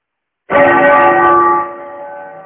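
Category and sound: signal or alarm, temple bell ringing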